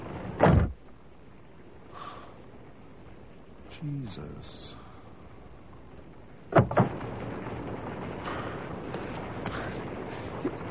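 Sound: door being slammed shut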